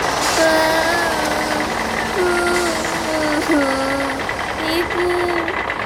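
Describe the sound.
A city bus engine runs steadily and loudly, a continuous idling rumble, as the bus is about to park beside a double-decker bus and nearly hits a child, with raised voices calling out over it throughout.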